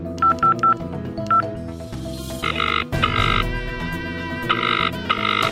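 A quick run of short telephone keypad beeps, a few rapid presses followed by more tones, heard clearly over a steady background music bed with no one speaking, as a phone number is dialed to make a call.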